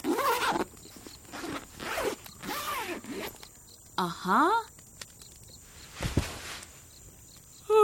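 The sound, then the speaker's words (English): A sleeping bag zipper is pulled in several quick, rasping strokes, fairly loud, with short pauses between them and a brief rustle near the end. “And I zip up my sleeping bag.”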